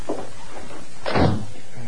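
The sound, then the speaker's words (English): A door swings shut with a single solid thud and a short rattle, preceded by faint handling sounds, with no one talking. “I heard the door close.”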